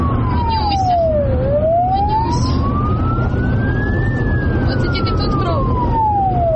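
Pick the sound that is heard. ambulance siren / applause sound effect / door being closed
ambulance siren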